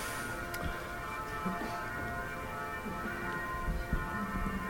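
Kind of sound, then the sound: signal or alarm, ringing bells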